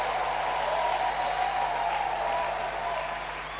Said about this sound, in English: Oh, clap your hands for Jesus.